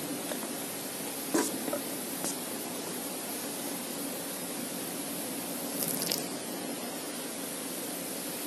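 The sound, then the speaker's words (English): Water squirts out of a squeezed bottle turned upside down in a steady, hissing spray that runs the whole time, with a couple of brief squeaky bursts partway through. No one speaks. “Why did water come out of the bottle?”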